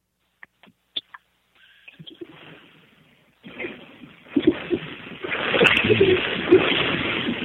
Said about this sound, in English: I will tell you, your motorcycle over your telephone sounds like an ocean wave. It doesn't sound like we're not getting the real motorcycle. Maybe you should hold your flip phone closer to the bike.